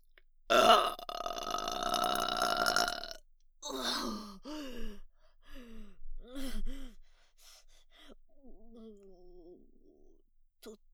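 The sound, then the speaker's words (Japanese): A single loud, drawn-out burp after drinking a lot rumbles for a few seconds, followed by softer breathy vocal sounds and short moaning utterances. “こんなにたくさん飲んだらすごいゲップが出そうです。お腹の奥から上がってきます。”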